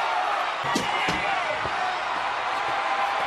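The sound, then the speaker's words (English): The door of the bloodmobile slams shut at a wrestling event as Stone Cold Steve Austin locks The Undertaker inside, a heavy thud quickly followed by a second bang, set against a constant roar of crowd noise with faint voices in the mix. “Austin pushing The Undertaker in the bloodmobile and locked the door.”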